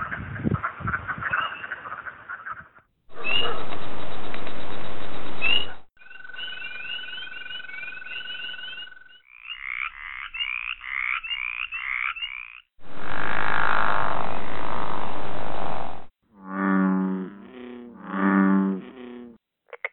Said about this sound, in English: If you guessed frogs or toads, you're right. Those were the calls of 9 frogs and 2 toads, part of Virginia's 27 native species of these two groups of amphibians.